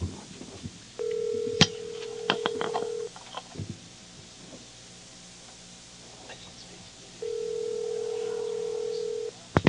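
A steady telephone dial tone hums, interrupted by several quick clicks and beeps of a number being dialed, then quiet before the tone returns near the end; moderately loud, no talking.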